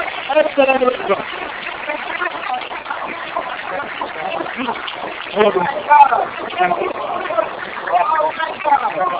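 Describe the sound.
An audience applauds steadily, a dense, continuous wash of clapping that holds at a fairly even loudness for about nine seconds, with scattered crowd voices and cheers mixed in.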